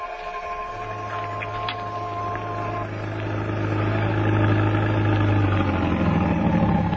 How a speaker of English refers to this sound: You? You had to take a taxi. My taxi. Well, there it is. Get in.